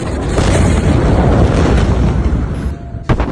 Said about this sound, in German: Fast 3000 Tonnen Ammoniumnitrat gingen in die Luft. Die Rauchwolke, die danach wie ein Atompilz in den Himmel über Beirut stieg, wurde ungezählte Male mit Handys fotografiert oder gefilmt.